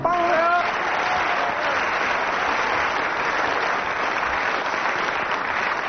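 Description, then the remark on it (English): Sustained applause from a large audience fills the whole stretch, dense and steady, with a brief tail of a sung or spoken voice at the very start. “Well, judging from audience applause, 9 out of 10 for that one.”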